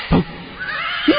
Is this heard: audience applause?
no